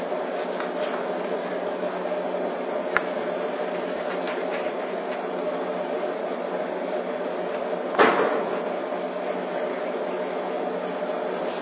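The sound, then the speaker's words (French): A vacuum cleaner runs steadily with a constant, droning whine throughout, broken by two brief knocks or bumps partway through. No one speaks. “Passer l'aspirateur.”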